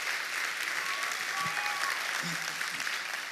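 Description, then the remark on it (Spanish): An audience applauds loudly for God, a steady dense wash of clapping that fills the whole stretch without pause. A faint voice surfaces briefly beneath the noise. “Alguien tiene que creer eso y dar un aplauso fuerte a Dios.”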